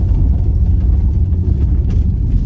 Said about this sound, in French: Je suis en drive, il n'y a personne derrière moi, je mets l'accélérateur à fond et ça donne ça.